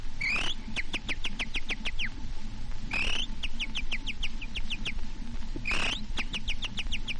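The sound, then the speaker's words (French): A recorded imitator from the Casino de Paris whistling an imitation of a warbler's song: three bursts of rapid, high, trilling chirps in quick repeated series, bright over a steady low background hiss. “Le chant de la fauvette.”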